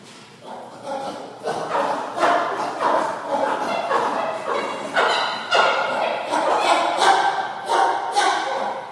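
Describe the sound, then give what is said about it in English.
Seven chimpanzees food-grunting and food-squeaking excitedly as lunch is served, a dense overlapping chorus of short, bark-like calls and high squeals that continues throughout, fairly loud. “Okay, it sounds like dogs, but in fact, that is the sound of seven chimpanzees food grunting and food squeaking because lunch is being served.”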